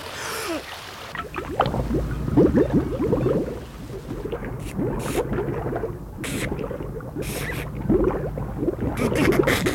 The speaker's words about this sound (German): Dann lief er zum See, holte tief Luft und glitt ins Wasser.